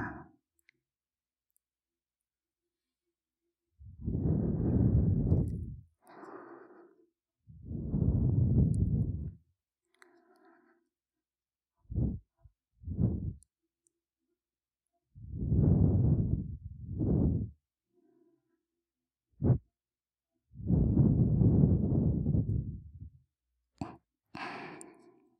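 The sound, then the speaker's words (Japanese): A younger sister's warm breaths are blown slowly into the ear several times, each a soft rushing puff, with a few faint mouth clicks in the pauses and no talking. “妹のあったかい吐息がお耳に当たるの、たまらないって感じだね。”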